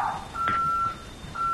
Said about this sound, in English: Okay, you'll notice you heard the chime confirmation from the phone.